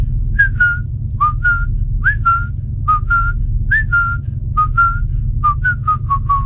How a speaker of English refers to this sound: All right, okay. I'm going to add the little whistle to this one. Are you ready?